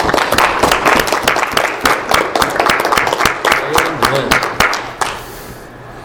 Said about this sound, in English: Can we just have a round of applause for all the speakers and the worship leaders?